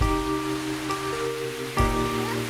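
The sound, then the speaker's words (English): A steady, continuous hiss of rain pattering on a surface, with a low, sustained hum running underneath. There is no talking. “We're gonna go out there in the rain. Gonna get wet.”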